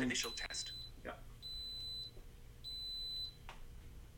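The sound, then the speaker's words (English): An electric pressure cooker beeps twice as its initial test is started, each a steady, high-pitched electronic tone lasting over half a second, separated by a short gap, with some faint clicks and handling noise around them. “After 10 seconds, the cooker will beep 3 times and begin heating.”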